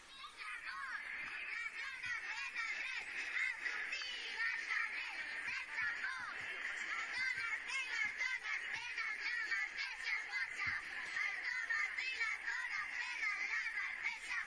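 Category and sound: crowd, children shouting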